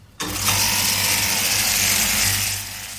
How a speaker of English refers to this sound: What is that noise? Sorry, I was just cutting some keys.